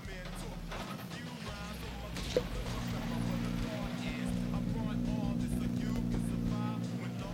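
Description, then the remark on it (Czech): The engine of a blue-and-black Škoda Fabia rally car rumbles steadily, a low droning hum that holds through the whole stretch while people talk over it. “Slyšíme další motor, ale opět je to samozřejmě motor školy Fabie.”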